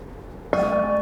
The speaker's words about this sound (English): So about 15 seconds of silence, set your intention, I'll ring the bell to start in 15 seconds.